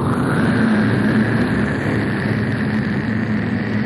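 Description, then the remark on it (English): A spaceship's Stage 2 rocket engines fire, roaring steadily and loudly for several seconds, a dense, unbroken rumble with a low droning hum underneath and no change in intensity. No voices are heard. “I want you to prepare to fire Stage 2 engines.”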